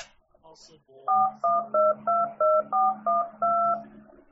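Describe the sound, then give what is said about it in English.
A touch-tone phone number is dialed: eight clear dual-tone beeps pressed in a quick, steady rhythm, after a brief bit of faint voice at the start. “But I just want to get on the phone and call you up, girl.”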